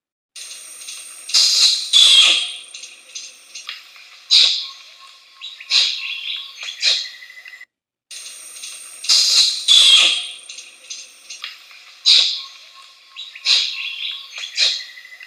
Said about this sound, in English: For next week's creature call, I'll play a kiss squeak from this Asian primate. Here's your preview.